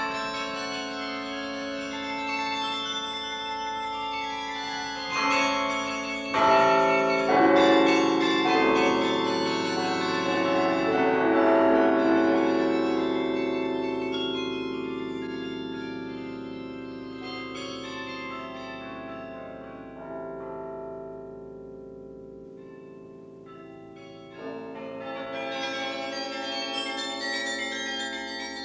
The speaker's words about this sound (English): The Chimes of Dordrecht. These are the most joyous bells in Europe. They can be solemn and gay. They can laugh, console, and amuse.